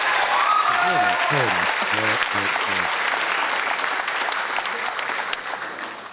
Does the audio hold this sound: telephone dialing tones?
no